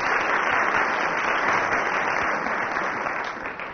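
Steady, dense applause from a large audience, a continuous crackle of many hands clapping at once that holds loud throughout and eases off slightly at the very end.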